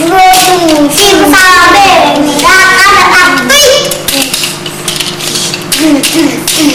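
A toy is banged against a hard floor in a string of sharp, irregular knocks. A young child's voice chatters loudly over the first half.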